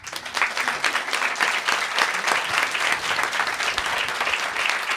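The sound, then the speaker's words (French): A crowd applauds steadily for several seconds at the end of a show, voting by applause that a presenter is cute, a dense, loud wash of many hands clapping at once with no break, with no voices standing out. “Je suis sûr que pendant les applaudissements, plein de gens ont lâché des caisses.”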